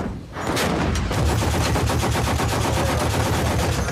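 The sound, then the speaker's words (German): Sustained rapid gunfire, a dense rattling stream of shots repeating at a fast, steady rhythm for several seconds, loud throughout with no voices, fired on command at enemy positions. “Halt, Feuer!”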